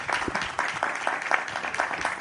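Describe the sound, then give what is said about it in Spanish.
A crowd applauds steadily for a couple of seconds in tribute to the staff's daily work, dense overlapping claps forming a continuous, fairly loud wash of sound with no talking. “Les pido un fuerte aplauso para el trabajo diario que siempre hacen.”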